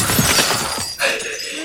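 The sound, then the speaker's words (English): A crystal is punched and shatters with a loud crash, followed by a bright scatter of tinkling shards ringing out and settling over the next moment. “You shatter the crystal.”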